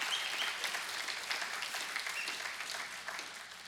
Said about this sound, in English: Yeah, come on, that's a good idea. That's a good place to clap and applaud.